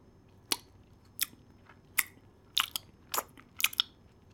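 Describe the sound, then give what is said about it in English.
Crisp, crunchy chewing of catnip by a cat: six or so sharp bites at an uneven pace, each a quick dry crackle, with silence between them and no voices. “As she opens her eyes, she throws some more catnip in her mouth and sits right in front of Dog.”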